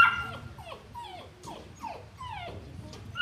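A large St. Bernard dog whimpers in a rapid series of short, high, falling whines, fairly steady, over a soft low background rumble.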